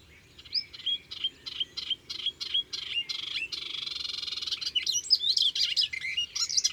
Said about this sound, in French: C'est une sorte de fauvette grise qui chante souvent à l'extrémité d'un rameau ou sur une branche bien en vue.